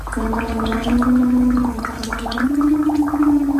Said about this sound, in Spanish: Coge un vaso con agua, una pajita, sopla para mantener un flujo de burbujas constante e intenta cantar una canción.